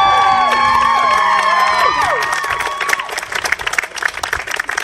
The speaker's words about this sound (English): I want you to give him a little round of applause for that excellent speech.